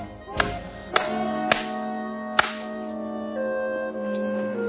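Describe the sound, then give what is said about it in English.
Four sharp, loud slaps to the face crack out at irregular intervals within the first few seconds, each a quick smack over a steady musical background that continues alone afterward. “We just shot slaps wherever we were.”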